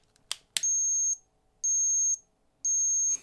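A cat deterrent device, which glows with red lights, sounds off: a couple of sharp clicks, then three loud, steady, high-pitched electronic beeps, each about half a second long, evenly spaced, with no talking.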